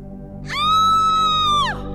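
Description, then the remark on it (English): A single shrill, sustained scream rings out for about a second, holding a high pitch before bending downward and fading, over a low steady background hum. “A blood-curdling scream echoed across the heavens.”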